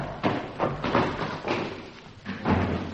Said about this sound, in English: Oh! What was that? Stage door. Somebody shut.